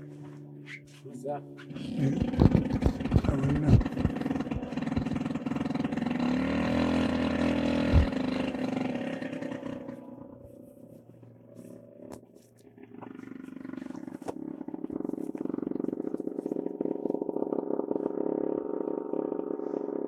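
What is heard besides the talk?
airplane passing overhead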